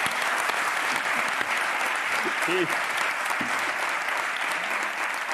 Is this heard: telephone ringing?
no